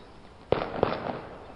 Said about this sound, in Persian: صدای تیراندازی عراقی ها از روی تپه هنوز شنیده می شد. صدای رگبارها و انفجارها قطع شده بود و تنها صدای تک تیر به صورت پراکنده به گوشمون می رسید.